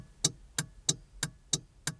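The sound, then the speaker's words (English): A car's turn signal ticks six times at a quick, steady rhythm, each crisp click evenly spaced and sharp, heard on its own with no voices. “But what about the not obvious until you point them out sounds, like the sound of the blinker?”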